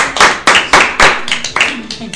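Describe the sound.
Brisk clapping from a small group, sharp claps landing in a steady rhythm about four per second, with faint voices murmuring underneath.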